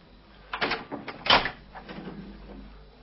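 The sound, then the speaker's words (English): A few sharp knocks on the door of a flat on the 20th floor of Burlington Mansions on Goldreich Street, irregularly spaced, with one louder rap among them, then a quiet pause with faint rustling and low background hum. “He takes the lift to the 20th floor and knocks on the door of a flat.”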